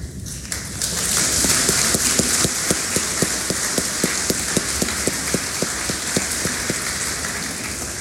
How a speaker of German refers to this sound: Ihr habt es super gemacht. Wisst ihr das? Haben auch alle geklatscht, gell? Genau.